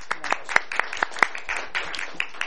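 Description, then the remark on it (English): A small audience applauds a guest expert on WHOIS law, a patter of irregular, overlapping claps with a few sharper ones standing out, sustained at moderate volume for a couple of seconds. “I'd love to see a round of applause, because she is just...”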